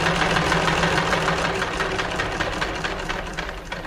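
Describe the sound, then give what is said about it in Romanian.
A car engine runs steadily, a constant low rumble with a rough, slightly knocking texture that fills the whole moment without pause. No one speaks over it. “Ne aud. Din cauza mașini.”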